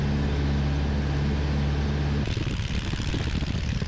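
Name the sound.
small airplane engine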